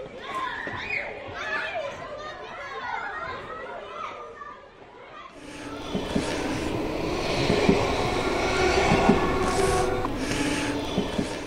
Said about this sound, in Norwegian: Nå står vi her nede på Valstad stasjon, og på sidesporet her har det vært travelt den siste tiden. På jernbanesporet ut til Spikkestad har det foregått mye anleggsarbeid.